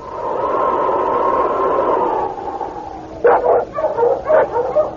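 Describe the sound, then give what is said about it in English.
A steady whining drone gives way to a burst of sharp, overlapping barks and yelps from Monk Wessel's team of sled dogs fighting among themselves outside a trading post, loud. “Outside the trading post, Monk Wessel's dogs were fighting among themselves.”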